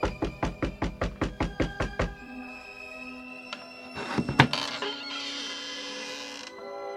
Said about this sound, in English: He went in that house, just as the master said he would. Quick, knock.